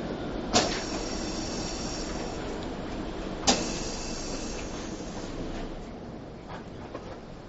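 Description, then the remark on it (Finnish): An arriving metro train rumbles steadily with a broad rushing roar, punctuated by two sharp metallic clunks, then gradually quietens as it slows. No one speaks. “ja sitten tuli se metro.”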